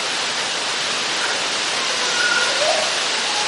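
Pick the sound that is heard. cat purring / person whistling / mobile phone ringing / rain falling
rain falling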